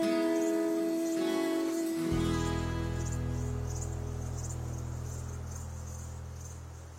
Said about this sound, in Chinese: 就是要让你听听那些虫子的声音，海浪的声音嘛。这不就是夏天最好听的声音吗？